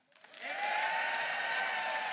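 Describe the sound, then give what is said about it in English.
A campus crowd bursts into cheering and clapping for the Get It, Got It Food food truck, swelling quickly after a brief pause and holding at a steady, loud roar of applause with whoops mixed in. “If you could only pick one and you showed up, you're hungry, you need a snack, you need a meal or whatever it is, you're gonna cheer for your food truck.”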